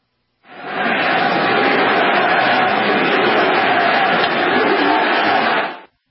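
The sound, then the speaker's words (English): A huge stadium crowd at a Phillies–Mets baseball game chants "USA" in unison, a dense, loud wall of many voices holding steady for about five seconds before cutting off abruptly. “Did you hear that crowd? USA!”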